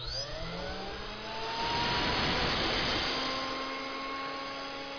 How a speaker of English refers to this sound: So the cutter, tell me about the cutter. This is used in conjunction with the vacuum. Let's fire it up.